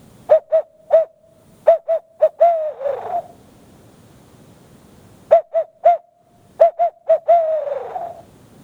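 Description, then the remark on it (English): An owl hoot blown on a turkey-hunting locator call, used to locate turkeys: two loud phrases of rhythmic hoots, each ending in a drawn-out, falling note, with a short pause between them and no talking. “So you're trying to locate a turkey, and this is what they call a locator call. This is an owl.”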